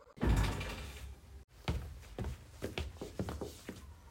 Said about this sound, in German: Gerade als sie ihre Vermutung aussprach, krachte die Tür auf und ihre Freunde stürmten herein.